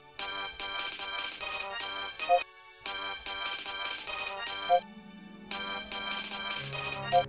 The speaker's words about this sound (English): I have avoided answering the constantly ringing comlink. I know it's her